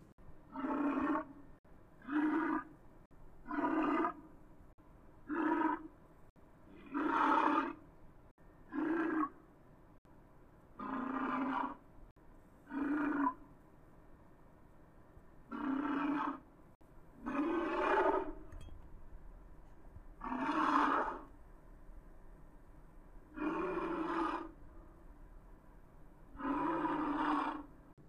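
A series of about a dozen deep, rumbling grunts and growls, altered walrus calls from the YouTube video Megalodon Sound Effects HD, used as a megalodon's voice, pitched low and loud, repeating roughly every two seconds with brief gaps between, some bursts longer and more drawn out.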